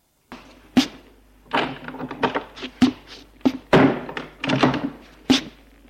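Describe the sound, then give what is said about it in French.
A bedroom door is banged shut by a man leaving the room, amid a run of heavy wooden thunks and knocks, several sharp loud impacts spread over a few seconds with rattling and shuffling between them, no voices. “Et il sort de la chambre en claquant la porte.”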